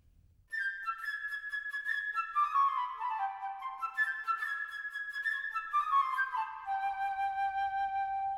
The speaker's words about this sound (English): In the tale you are about to hear, each character is represented by a different instrument of the orchestra. The bird by the flute.